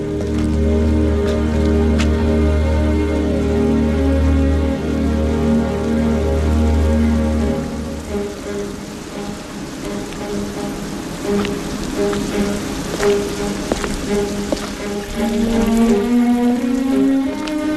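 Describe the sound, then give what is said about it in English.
Rain pelts a large metal drum in a dense, steady patter, the drum ringing with deep sustained tones; partway through, sharper individual drops ping out more clearly, with no voices. “You are listening to the noise of rain beating against a large metal drum.”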